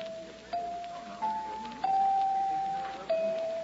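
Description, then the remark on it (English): Several clear chime tones ring out one after another, each struck note sustaining and overlapping slightly before the next, bright with no voices. “Wonder how much these chimes are.”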